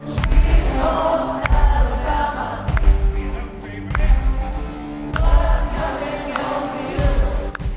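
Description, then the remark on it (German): A concert crowd roars and cheers steadily over a band's live music after a song with violin playing, with loud, regular bass-drum thumps pounding through the dense, noisy wall of voices. “Und da gab es extrem viel Jubel nach,”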